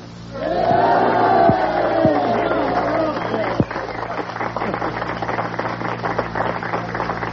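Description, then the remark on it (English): A large crowd roars and cheers loudly and steadily, with a few raised voices shouting above the din at first, then a dense wash of clapping and crowd noise. “I mean, love and cheering.”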